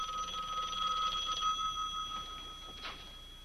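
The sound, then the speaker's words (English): A telephone bell rings steadily for the whole moment, a sustained metallic jangle at moderate volume with no one speaking, set against a faint background hiss. “you missed the first phone calls.”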